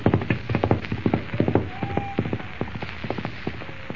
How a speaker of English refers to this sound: the wild, unbroken horse gallops into the darkness.